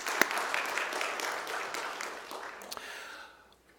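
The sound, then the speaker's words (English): A crowd bursts into steady applause given as thanks before a Bible study on the book of Revelation, many hands clapping in a dense, crackling wash with a few sharper claps standing out, before it thins and fades away over the last second. “So let me just give you guys a round of applause.”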